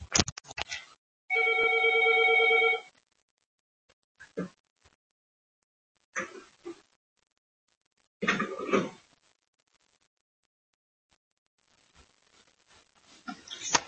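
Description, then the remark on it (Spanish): A telephone gives one loud, steady electronic ring lasting about a second, followed by scattered clunks, scrapes and rustling as if the handset is picked up. No one speaks. “Perdóname, voy a descolgar el teléfono, perdona.”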